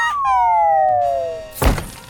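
A cartoon-style falling whistle slides steadily downward in pitch, then ends in a loud crash and thump as a squirrel comes crashing down from the trees by a pond. No one speaks.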